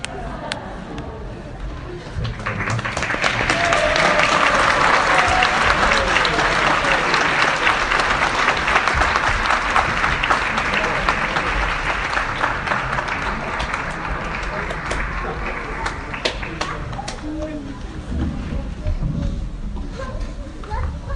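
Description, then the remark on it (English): An audience applauds to thank Niranjan Swami after his class: a dense wash of clapping that swells after a couple of seconds, holds steady, then thins out near the end while some talking rises beneath it. “So we want to thank Niranjan Swami for a wonderful class, another round of applause for tonight.”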